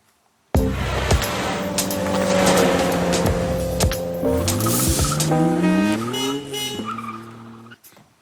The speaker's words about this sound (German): Ja, der Wagen ist vorgefahren, denn alle Spieler sind ja mittlerweile eingeladen im Kader.